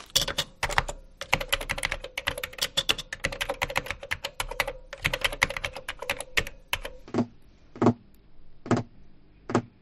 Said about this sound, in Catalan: Acabem d'escoltar el soroll d'algú que mastega, el teclejar d'un ordinador i unes ungles picant en una taula.